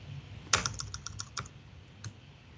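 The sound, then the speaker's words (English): A quick burst of computer keyboard typing while writing code, about eight crisp clicks in rapid succession, followed by a pause and one more isolated keystroke, over a faint low hum. “There's that, those typing skills again.”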